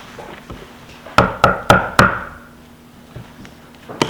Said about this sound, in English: Now Paul knocked on Philip's door.